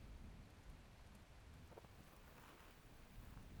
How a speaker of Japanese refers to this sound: 雨ですね。